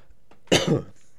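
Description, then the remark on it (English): A single harsh cough from a speaker who is getting sick bursts out loudly and breaks into two quick rasping pulses before fading, with only faint background noise around it and no talking. “So I apologize if I cough into the microphone.”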